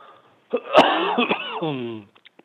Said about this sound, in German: Ich habe so viel Flüssigkeit in der Lunge. Okay. Und da habe ich solche Hustenanfälle.